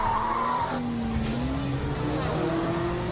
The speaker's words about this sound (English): Oh, there's a skid! Oh, and there's a wreck! The cars are piling up!